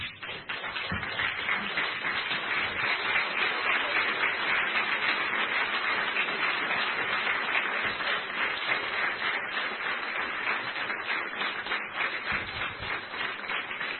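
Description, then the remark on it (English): A standing church audience applauds their pastor steadily for about fourteen seconds, a dense wash of many hands clapping at a constant loud level with no speech over it. “I want you to stand right now and give your pastor a great life, a great round of applause.”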